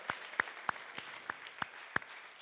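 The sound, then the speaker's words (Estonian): An audience applauds for Jesus in a steady wash of clapping, with a few sharper, louder claps standing out at irregular moments. No one speaks over it. “Nii, teeme Jeesusele üks vägev aplaus, kõige vägev aplaus üldse, amen, halleluja, amen.”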